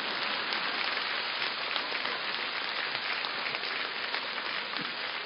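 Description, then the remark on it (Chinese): A crowd claps steadily and densely for several seconds, the applause holding an even, hissing roar throughout with no voices over it. “而我们现在的人连笑都是这么吝啬，连鼓掌都是这么吝啬。”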